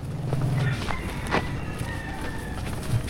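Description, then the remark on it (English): A rooster crows once, its drawn-out call rising over a steady bed of night ambience with faint cricket hum and a night breeze blowing through banana trees. “It's only 15 minutes away, but instead of dance music, it's crickets, the night breeze blowing through the banana trees, an occasional crowing rooster or barking dog.”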